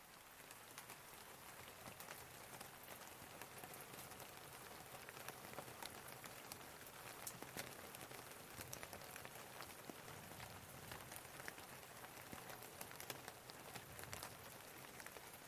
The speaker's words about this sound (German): Oh, Elia hörte den Regen.